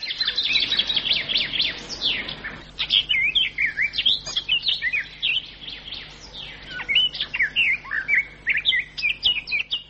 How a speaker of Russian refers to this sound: птичьи голоса.